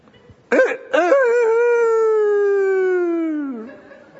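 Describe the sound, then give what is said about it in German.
A man's voice imitates a rooster crowing: two short clipped bursts, then a long sustained, slightly wavering call that slowly falls in pitch and fades out, heard alone without other talk. “Ich krähe und ihr lacht.”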